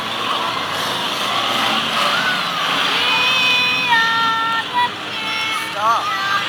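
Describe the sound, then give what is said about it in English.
Race car engines whine and rev over a constant loud hiss of tires spraying on a wet, soaked track, with the pitch climbing and dropping as the cars pass and shift; one car is spun around by another. “The new car getting spun around by the 06. The track is wet.”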